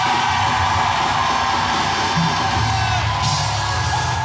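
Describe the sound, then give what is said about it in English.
A crowd hollers and whoops loudly and continuously, many voices blending into a dense roar of yells and cheers that stays at full intensity throughout. “We're going to holler.”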